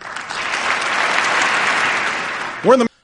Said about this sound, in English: Only Democrats applauded.